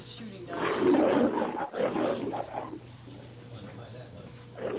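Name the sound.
lion roar station ident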